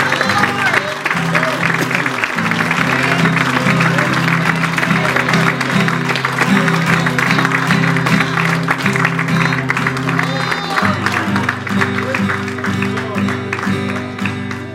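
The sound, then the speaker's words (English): A church audience gives a morning hand clap offering to the Lord: a large group claps steadily and loudly for the full stretch, a dense, sustained wash of applause over sustained instrumental music with low held chords underneath. “Let's give the Lord a nice big hand clap offering this morning.”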